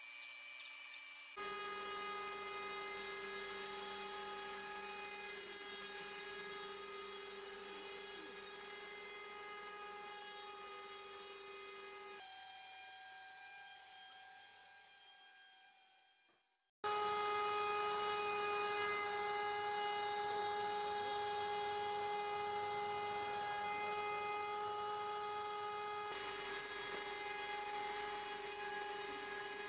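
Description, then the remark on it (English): A CNC machine, built from an Extreme Plasma kit, runs with a steady, loud mechanical whine full of high harmonic tones, dropping to a quieter hum midway before surging back at full strength while its router bit cuts through a sheet of plywood. “It's brilliant because it can cut a whole sheet of ply in one go.”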